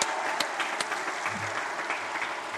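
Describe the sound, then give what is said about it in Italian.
A crowd applauds steadily for a deceased companion, a dense patter of many hands clapping at once, sustained and fairly loud throughout with no voices standing out. “Un applauso al nostro compagno.”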